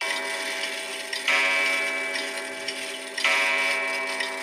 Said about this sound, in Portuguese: O tempo passou e o relógio bateu. Meia-noite.